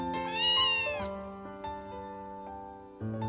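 A single drawn-out meow from Nagumo's cat Eleanor, clear, rising then trailing off over about a second, followed by steady tonal background sound with no one speaking.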